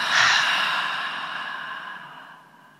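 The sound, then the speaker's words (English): A long, breathy, audible exhale through the mouth for a count of four during a counted breathing exercise, loudest at the start and slowly fading over about three seconds, with no talking. “Audible exhale out for four.”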